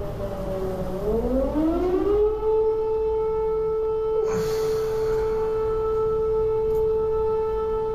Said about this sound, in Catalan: des sirenes que anunciauen dilleu un possible atac